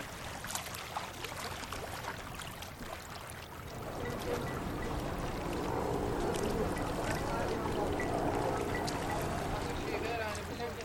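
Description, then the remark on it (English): A steady rushing pour of ice into the cold storage of a fishing launch being prepared for a journey, growing louder and fuller after a few seconds and continuing without pause, with indistinct voices and boat-like rumble in the background. “Loading fresh water and supplies and pouring ice in the cold storage, refueling the loading gargars are the most important tasks.”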